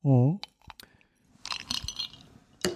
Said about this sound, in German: Ich höre deine Eiswürfel klappern und nehme das als Überleitung zum nächsten Thema.